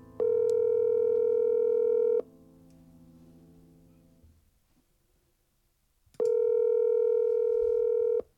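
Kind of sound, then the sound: signal or alarm, telephone ringing tone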